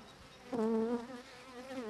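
A dense, steady drone of many honeybees buzzing on a hive frame, their hum wavering slightly in pitch and swelling louder midway before settling into a continuous, humming chorus.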